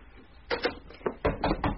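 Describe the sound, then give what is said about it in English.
Knocking on a door: a quick pair of firm raps, a single knock, then a faster run of three, each a sharp hollow thud standing out clearly against a quiet background. “I'm sorry, someone's at my door.”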